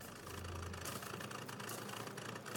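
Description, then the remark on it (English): The engine of a borrowed car idles steadily, a continuous low rumble with a faint rattling texture and no voices, holding an even level for a couple of seconds. “And then I borrowed my brother's car.”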